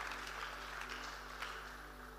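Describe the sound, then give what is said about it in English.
An audience claps for the Lord together in a dense, steady wash of many hands, with a few sharper slaps standing out briefly before the sound eases slightly toward the end. “Give the Lord a better clap of it.”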